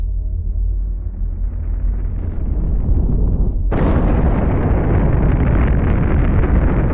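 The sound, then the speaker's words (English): A deep, swelling rumble builds for a few seconds, then bursts into a sudden, loud explosion that carries on as a sustained, roaring blast, like a cinematic Big Bang sound effect, with no voices. “Standard cosmological theory says that the universe was created during the Big Bang.”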